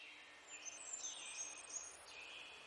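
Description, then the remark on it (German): Soft, high birdsong from birds singing in the trees on both sides of a path and flying from tree to tree, thin chirps and trills layered over a steady hiss-like background, continuous and fairly faint throughout, no voices. “Die Vögel, die in den Bäumen links und rechts des Pfades singen, fliegen von einem Baum zum nächsten, als ob sie dich begleiten wollten auf deinem Weg hin zu der kleinen Stadt.”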